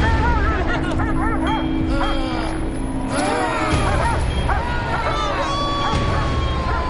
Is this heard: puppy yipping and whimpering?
yes